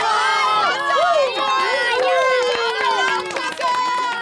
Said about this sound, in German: Alles jubelt und klatscht und die Kinder tanzen im Kreis herum.